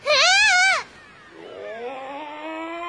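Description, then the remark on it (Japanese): A woman, a princess, lets out one loud, shrill scream that rises and falls for under a second, then breaks off. A quieter, lower voice carries on steadily afterward. “お姫様の悲鳴ですじゃ。”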